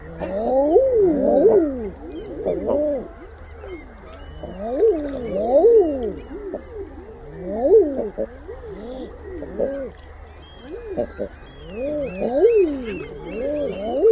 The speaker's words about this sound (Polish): Posłuchajmy głosu edredona w jego naturalnym środowisku.